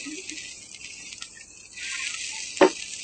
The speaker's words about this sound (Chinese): 小心啊，呢个扒我哋唔好煎窿啊，随时睇下佢有冇会窿喎。係啦，间唔中反下去。呢素扒因为都好抢，好容易钻窿㗎。